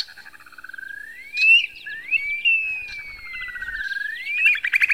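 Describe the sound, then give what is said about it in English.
An upland sandpiper's wolf whistle call: a bubbling trill rising into long, drawn-out whistles that swoop up and slide down, repeated several times and ending in quick pulsing notes, with no talking. “Listen for their unusual wolf whistle call.”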